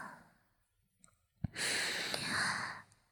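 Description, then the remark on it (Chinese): A single long, breathy exhale very close to the mic, soft and airy, lasting over a second after a small click, with quiet stillness around it and no talking. “我们之间的距离竟然是如此的近，近到我都能够听到你的呼吸声啊！”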